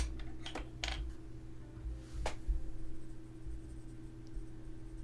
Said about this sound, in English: Let me just slip this paper inside your pocket, since your hands are full. My number, silly!